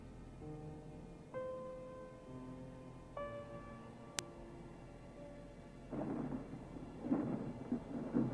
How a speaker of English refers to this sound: Stormy waves crash on a rocky promontory where a large, isolated beach house sits.